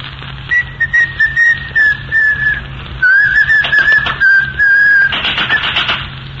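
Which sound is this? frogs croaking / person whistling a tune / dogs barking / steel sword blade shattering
person whistling a tune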